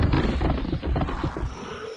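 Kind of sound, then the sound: animal, rottweiler growling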